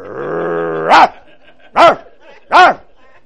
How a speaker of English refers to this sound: And when I hear that, guess what? I get up and I look out the window to see what's going on out there, because my dog just barked.